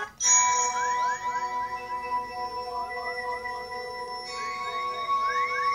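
A bright electronic phone alarm tone plays on its own, with steady high pitched notes and rapid repeating upward chirps in a looping melody that stays loud throughout.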